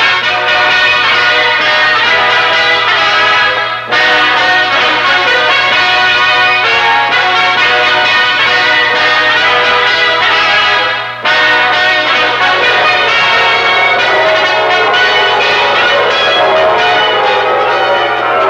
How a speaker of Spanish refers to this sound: Así nació, entre los tañidos jubilosos de una broncínea campana